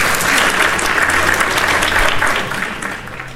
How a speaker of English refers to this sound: Let me give my man this applause real quick.